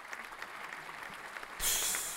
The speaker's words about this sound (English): I just want to give you a round of applause just for that, because that was, like, just perfect.